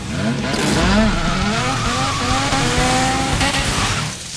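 A motorized sleigh's engine roars through trees as it brakes and skids through a handbrake turn, the screech wavering in pitch for several seconds before easing off.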